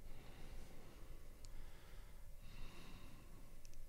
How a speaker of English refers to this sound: That's quite a lot of breathing on air.